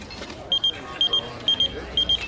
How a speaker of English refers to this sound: That's interesting. Oh, because it's a beeper.